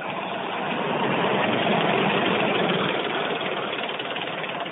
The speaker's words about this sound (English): They thundered into Baghdad. The roaring sound of tank engines resounding around the city's streets.